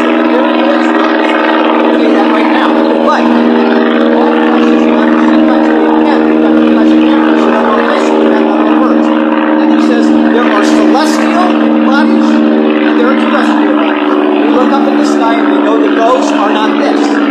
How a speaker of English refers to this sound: That is not a bird. That's an airplane.